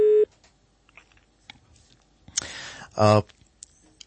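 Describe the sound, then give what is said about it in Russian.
A telephone busy tone after a dropped call sounds once, loud and steady for a quarter second, then fades into quiet line noise with scattered clicks and a brief muffled burst. “Сорвался звонок, но попробуйте, пожалуйста, перезвонить.”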